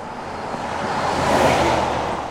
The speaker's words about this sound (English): Cars whip past the intersection of Willis and Rainbow Valley Roads near Estrella Mountain Ranch.